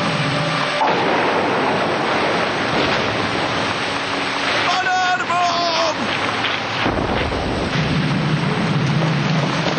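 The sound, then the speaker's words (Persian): A loud, steady roar of a night storm with thunder, heavy rain and gusting wind filling the whole stretch, and a brief high whining tone rising out of it about midway. “طوفان و ره، عجب شب است.”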